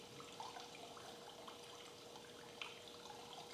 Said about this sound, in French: Et donc, les sentiers sont des ruisseaux, les escaliers des torrents et les murs des cascades. Et les plans des mares.